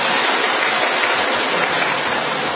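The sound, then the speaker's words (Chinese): Steady, dense applause from a crowd at a Christian gathering after a woman's testimony, a continuous wash of clapping that holds an even loudness for a couple of seconds with no voices over it. “我们再次鼓掌，谢谢这位姐妹的见证。”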